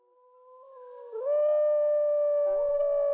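A single wolf howls alone, one long drawn-out note that starts soft, swells and climbs in pitch, then holds loud and steady before wavering slightly at the end.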